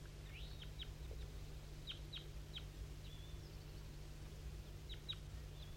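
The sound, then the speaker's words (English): A distant wild bird down a hollow to the southwest sings faint, high chirps in short clusters with pauses between, set against a steady low background hum. No one speaks. “That wild bird down the hollow started to sing.”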